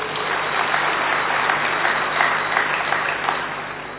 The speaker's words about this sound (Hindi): इसलिए आप जोरदार ताली बजाओ।